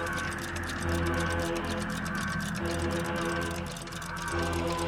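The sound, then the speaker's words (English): A watch ticks in quick, steady succession, each crisp tick repeating at an even pace over a constant low hum in the background. “He was never without a watch. Ticking.”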